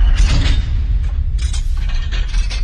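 door closing

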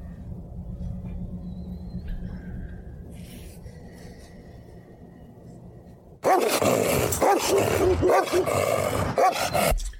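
dog barking and growling

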